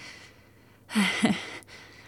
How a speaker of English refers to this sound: I'm sorry I'm breathing so hard.